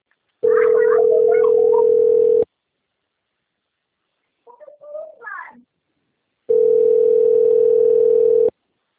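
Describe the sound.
A steady, buzzy modem tone on a phone line sounds in two loud bursts of about two seconds each, separated by a quiet gap with a brief muffled voice.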